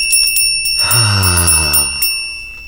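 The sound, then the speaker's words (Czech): A small Christmas bell, said to announce the Christ Child bringing gifts, rings steadily with a bright, sustained high shimmer, its rapid strikes blending into a continuous jingle, while a deeper humming tone swells briefly in the middle. “Slyšíte ten zvoneček? To je přece Ježíšek.”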